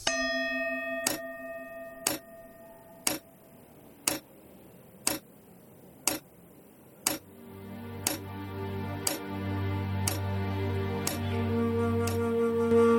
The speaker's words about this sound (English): The tick-tock of the clock shows clearly the passage of my life.